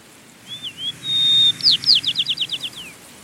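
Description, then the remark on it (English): A Nuttall's white-crowned sparrow sings its local dialect song: a few thin whistles, a long steady whistled note, then a quick run of sweet, falling trill notes, clear with no voices. “And some of the things we would have been hearing are like that local dialect of the Nuttall's white-crowned sparrow.”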